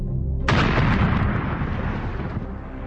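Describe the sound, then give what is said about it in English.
A bombing explosion from British-made bombers sent by General Pinochet against the presidential palace in Santiago, Chile, on September 11, 1973, bursts in suddenly over a low rumble. It is a single loud, broad blast that lingers as a heavy roaring wash and slowly fades, with no voices. “In Santiago, General Pinochet, America's man, sent in his British-made bombers against the presidential palace.”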